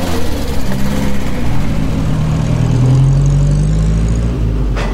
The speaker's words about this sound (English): The motor car zoomed along the country lane. A panicked cyclist, who'd never seen or heard such a vehicle in his life, feared he would be crushed, and he drove into the hedge at the roadside.